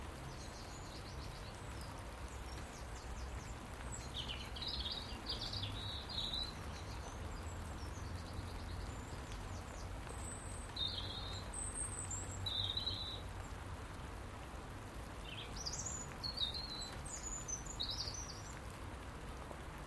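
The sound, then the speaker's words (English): Birds sing in short, high, thin chirps and brief phrases that come and go over a steady low background hiss and rumble, like wind or light rain. No one speaks. “To hear the birds.”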